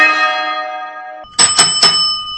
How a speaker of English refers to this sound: Ringing for service can drive a person squirrely. I heard this like incessant ringing noise and I was like, what is going on? And my coworker was like, oh, we taught the squirrel to ring the bell.